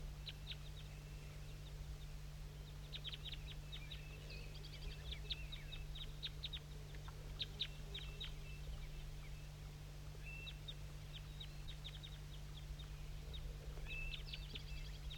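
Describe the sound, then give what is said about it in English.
Wild birds in an oak tree call throughout with many short, high-pitched chirps and tweets in irregular bursts, faint over a steady low-pitched hum, with no talking. “And there's some wild birds I'm going to point to that are down still in that oak tree.”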